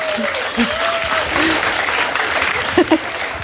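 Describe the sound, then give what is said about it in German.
Steady, dense applause fills the whole stretch at a fairly loud level, a continuous rush of clapping with a few brief vocal sounds or whoops poking through near the end. “Naja, und Dankeschön, ja, einer ja, klatscht.”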